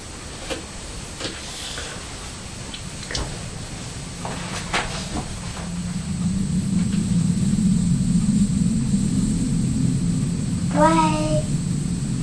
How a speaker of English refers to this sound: Can you hear that big noise? Yeah. It's a plane. It's a plane, that's right.